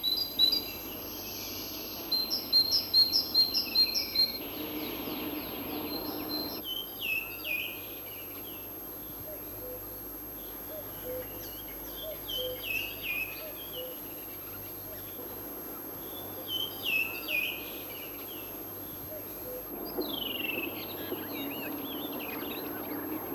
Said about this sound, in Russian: Это песня большой синицы. Ее можно встретить всюду, в лесу, в деревне, даже в городском саду.